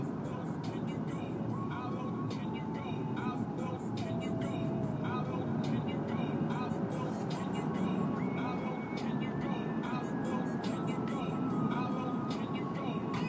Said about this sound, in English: Yep, these cars on the freeway are not moving particularly well.